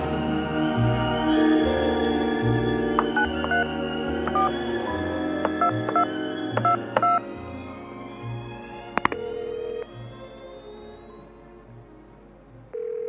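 A telephone is dialed to call competing detectives for overflow work, a quick series of short touch-tone beeps in two bursts, heard over steady background music with a thumping bass line, and no one speaking.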